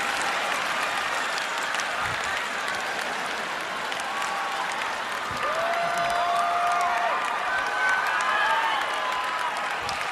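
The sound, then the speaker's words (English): A large audience claps steadily for the full stretch, a dense, even roar of applause with some scattered cheers and whistles rising above it. “Oh, some of you are not clapping.”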